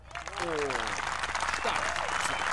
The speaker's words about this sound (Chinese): 雷鸣般的掌声响了起来。观众们为这特别的踢踏舞大声喝彩。